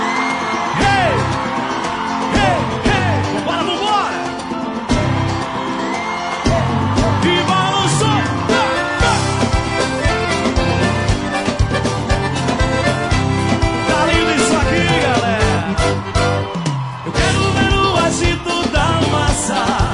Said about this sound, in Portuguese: Santa Catarina, eu quero ouvir o grito de guerra dos garotos de ouro comigo assim, ó.